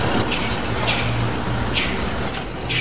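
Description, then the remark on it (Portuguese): Dozens of heavy trucks rumble and idle in the huge yard of a Ceará state tax checkpoint at Penaforte, Brazil, waiting for invoice checks; a dense, steady engine drone with several short hissing bursts, like air brakes releasing, recurring every second or so. “O imenso pátio do posto fiscal é ocupado por dezenas de caminhões.”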